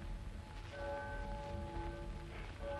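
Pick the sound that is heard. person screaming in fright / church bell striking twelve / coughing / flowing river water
church bell striking twelve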